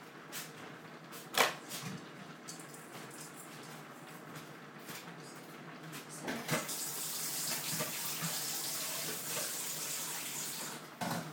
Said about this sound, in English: Run the water to get it hot so that actually with this dish it doesn't really matter when I rinse it if it goes cold because it's going to be warmed up in the oven again, but I usually rinse the pasta with hot water so that it doesn't go cold.